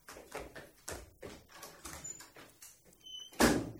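A door is opened after a run of quick, hollow thumps, ending with a louder, sharp clatter as it swings open, as a son opens it for his arriving mother. No talking.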